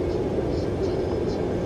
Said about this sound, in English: Wow, that engine sounds like a squealing pig.